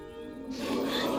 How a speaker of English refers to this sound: goes towards the tree and sniffs it.